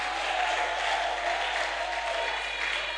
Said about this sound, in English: Can you clap your hands and shout mightily?